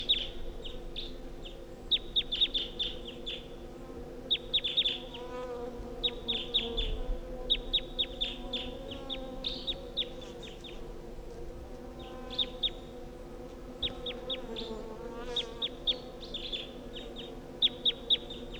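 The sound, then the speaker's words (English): A wild bird calls from the top of a tall pine in repeated bursts of sharp, high-pitched chirps, each cluster fairly brief and evenly spaced, set over a steady low hum with no voices. Recorded at 10:13 a.m. “That's it calling from the top of the tall pine.”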